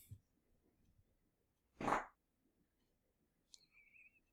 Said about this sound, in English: And that's disgusting. Oh my God. Instead of introducing myself, I just farted. It's palpable.